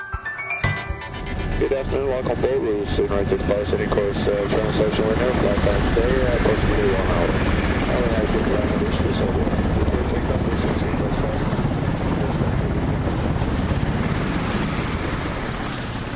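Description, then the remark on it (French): A helicopter's rotor and engine roar loudly and steadily as it arrives at a Lundin Petroleum offshore platform in the North Sea, a dense mechanical drone with a pulsing chop. A voice speaks briefly under the noise. “Donc là on arrive, vient de descendre de l'hélicoptère, on monte sur la plateforme”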